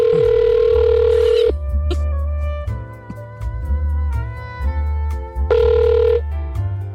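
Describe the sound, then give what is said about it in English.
An outgoing phone call to a contest winner rings back twice, with a steady electronic ringing tone for about a second and a half, a pause, then another ring, all over background music. “We're hoping our phone works.”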